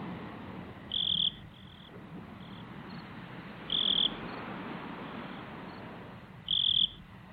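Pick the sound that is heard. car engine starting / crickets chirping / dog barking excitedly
crickets chirping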